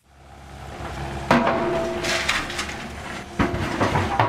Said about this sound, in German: Die Baggerschaufel wühlt sich schon frühmorgens in den trockenen Boden. Es riecht nach Erde und Staub auf dieser Baustelle mitten in Frankfurt.